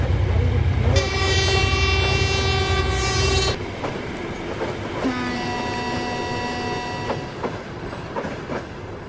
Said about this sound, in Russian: отправляется поезд номер 6506. Будьте внимательны и осторожны.